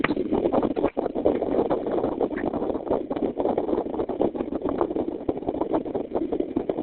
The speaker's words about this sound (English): someone doesn't have their phone on mute and they're outside and it's windy, I think, so I'm going to mute the whole line and then I'll take it off when we're ready for questions, okay?